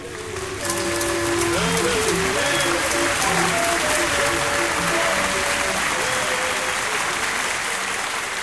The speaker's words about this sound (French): Merci, on l'applaudit encore, merci, merci.